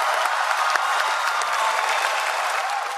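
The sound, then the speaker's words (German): A large conference audience applauds loudly and steadily, a dense wash of clapping that holds at full strength throughout, with no voices standing out, as French foreign minister Laurent Fabius announces that the Paris climate agreement is accepted. “Ja, Jubel.”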